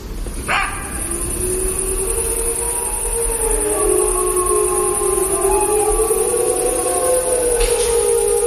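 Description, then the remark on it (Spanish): A fox yelps and barks: one sharp bark opens, then long, wavering, whining cries slide up and down in pitch and overlap one another over a steady background hiss. No one speaks. “Este es el zorro gañitando y tautando.”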